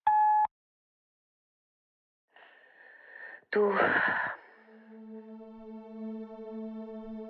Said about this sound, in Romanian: Înregistrează un mesaj după semnalul sonor.